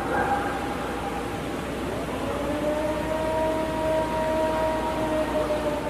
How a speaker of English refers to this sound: But some swear by this audio recording. It's known as the Ohio Howl. You'll hear a dog barking and then an eerie, siren-like moan.